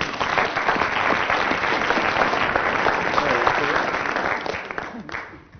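A large audience applauds someone who has just completed a Rubik's Cube, with dense, steady clapping that holds at full strength for several seconds, then tapers off near the end.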